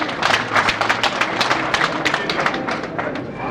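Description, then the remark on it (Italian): A crowd applauds a poet's turn at a poetry performance, with dense overlapping hand claps that hold steady and fairly loud for a few seconds without fading. “Un applauso, grazie.”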